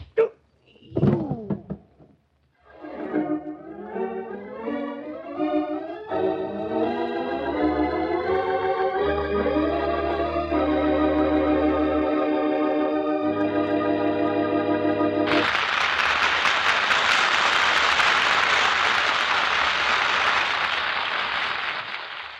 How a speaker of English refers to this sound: Dull thud. Sounded like something hitting against Detective Perry's head, didn't it?